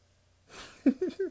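A dog breathes hard and snores: a breathy rush of air, then three short, nasal snorting grunts in quick succession, fairly quiet overall.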